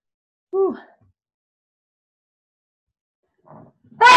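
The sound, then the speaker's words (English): A short voiced 'ooh' with falling pitch, a long silence, a faint breathy intake, then an abrupt, loud, harsh sneeze burst that cuts off at the very end. “Ooh, I gotta sneeze.”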